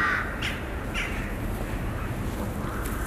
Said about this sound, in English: at the moment I'm on an English-style park in Tartu, which is called Toome Hill. And here are living many birds. These are crows, and they have nests on tops of trees. And there are very many here.